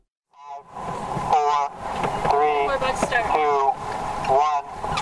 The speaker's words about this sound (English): Seven sailboats vie for position at the start line.